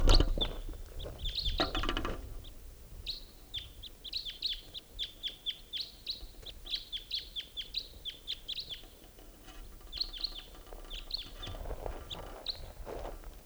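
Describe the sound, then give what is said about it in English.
Flight calls of a pair of type 2 red crossbills: a long run of short, sharp, high 'kip' notes repeating in quick irregular bursts over roughly ten seconds, with low rustling or footstep noise at the start and end. “Sounds like there's some crossbows coming out.”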